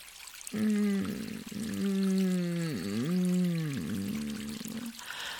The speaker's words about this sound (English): Do you feel the warmth of the water bubbling through your body? Oh, it's so good, isn't it?